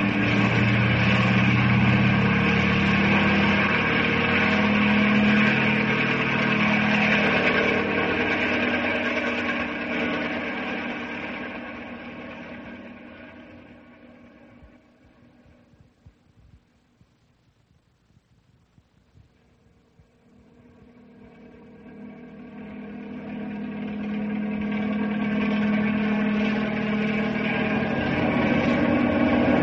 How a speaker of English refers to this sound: Bring the copter closer